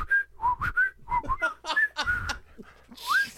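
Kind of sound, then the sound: human body sound, person whistling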